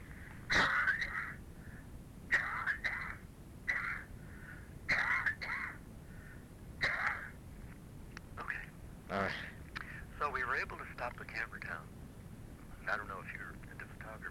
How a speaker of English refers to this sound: Coming back from vacation rendered me a little cough.